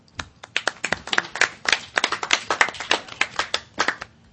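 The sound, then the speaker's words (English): A group of people at a national board meeting claps, producing a steady stream of sharp, overlapping hand claps that continue at an even loudness for a few seconds, with no voices. “And I'd like to applaud all of you here for doing that.”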